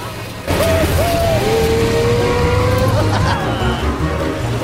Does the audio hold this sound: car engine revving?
yes